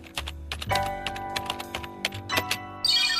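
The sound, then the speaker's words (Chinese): Quick, uneven bursts of typing on a computer keyboard, on a computer holding notes for an article, the keys clacking distinct over a low steady hum, with no one speaking. “哎，等等，我的电脑里面有我文章做的全部笔记。”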